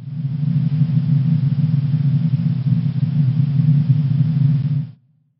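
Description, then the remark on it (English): A steady, unbroken wash of white noise, a sound not found in nature, played as an item in a sound-guessing quiz, with a heavy low rumble underneath, holding constant loudness for about five seconds before cutting off abruptly. “This one's kind of unfair because it's a sound that doesn't actually exist in nature.”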